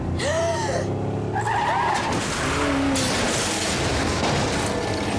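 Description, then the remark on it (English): Tires squeal in long, wavering screeches as a car skids on a dark country road and smashes into a figure, followed by heavy crunching impacts and scraping debris as the car flips onto its roof, loud, with no voices. “Driving on a dark country road, she smashes into a shadowy figure. The car flips, ending up on its roof.”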